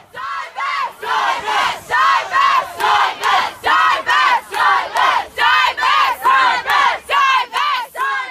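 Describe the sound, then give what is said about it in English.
A crowd of pro-divestment students chants in unison at an impromptu rally outside a building, loud rhythmic bursts repeating steadily about twice per second, voices blending into a single forceful protest cadence. “The pro-divestment crowd poured out of the room and held an impromptu rally outside the building, which the Electronic Intifada captured on video.”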